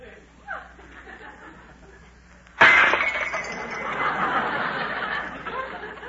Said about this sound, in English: My wife walked into the room carrying a tray loaded with dishes. Suddenly the tray slipped from her hands and went crashing to the floor.